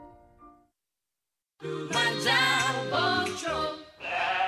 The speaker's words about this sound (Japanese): こんなに羊が